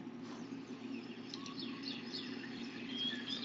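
A recording of many different birds chirping and tweeting in quick, scattered bursts, fairly faint, over a steady low background hum with no talking.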